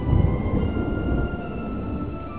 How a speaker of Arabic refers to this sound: في السماء بدأت غيوم المطر تتشكل وسمع صوت الرعد من بعيد.